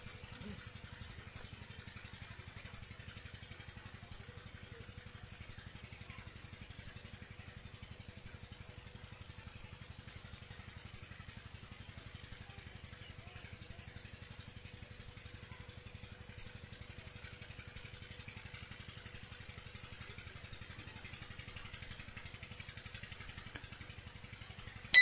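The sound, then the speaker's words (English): A water pump motor drones steadily for the whole stretch, a low rumbling hum with a faint buzzing whine above it, unchanging and fairly quiet, with no voices. “Hear everything, but please do not listen to the water pump.”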